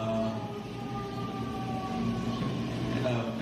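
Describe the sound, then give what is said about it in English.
An emergency vehicle siren wails faintly, its sustained tone drifting slightly in pitch over a steady, low background rumble for the whole few seconds, heard in a Chicago neighbourhood. “A lot of birds, a lot of sirens.”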